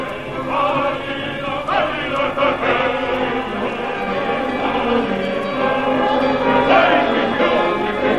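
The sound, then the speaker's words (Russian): Bells peal continuously with overlapping, ringing strikes that blend into a dense, reverberant clangor, steady and fairly loud throughout, as a crowd welcomes arriving troops with flowers and banners, with a faint murmur underneath. “цветами и хоругвями, под трезвон колоколов, буржуазия встречает белых.”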